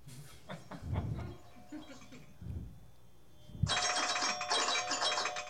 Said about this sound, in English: It's 19 minutes after the hour, which means it's almost 4:20 somewhere. Do you have that alarm for every hour? Yes.